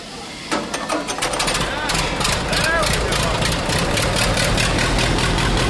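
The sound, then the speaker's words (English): A 1948 Allis-Chalmers tractor, restored by a high school FFA tractor team, starts up and settles into a steady, loud idle with a rapid, even chugging rhythm, while a faint voice briefly murmurs underneath. “It's taken 3 years for the Box Elder High School FFA tractor team to restore this 1948 Alice Chalmers tractor, which in the early 1950s was used to remove snow from the roadways in Preston, Idaho.”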